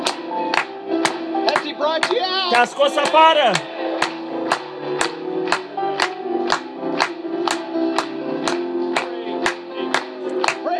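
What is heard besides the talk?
audience clapping hands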